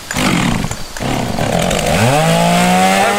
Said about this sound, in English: Commercial with my Bootland Pro chainsaw running because I've personally tested my new Stinger ballistic sunglasses by wearing them while cutting up down trees from Hurricane Laura.